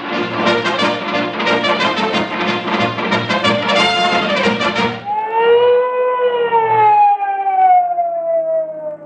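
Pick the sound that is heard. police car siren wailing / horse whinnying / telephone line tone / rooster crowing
police car siren wailing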